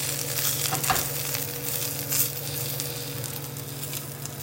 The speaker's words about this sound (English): Can you hear that sizzling?